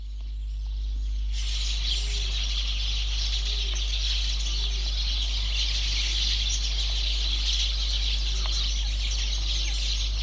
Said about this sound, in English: Effects track of birds twittering in trees.